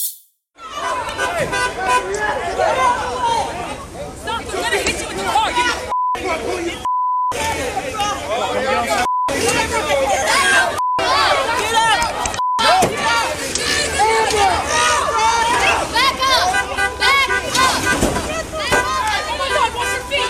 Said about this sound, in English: You'll see the mob swarm a truck. The truck drives away and in the chaos ends up crashing.